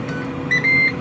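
An air fryer cooking potatoes and fish sticks beeps as its timer finishes: a short electronic tone followed by a longer one, clear, over the steady whir of the running appliance, whose fan keeps running on for a few seconds.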